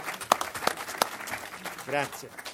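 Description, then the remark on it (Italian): An audience applauds with steady, scattered clapping and a few sharper claps standing out. Briefly, a voice rises over the clapping near the end. “Bene, questo merita davvero un applauso.”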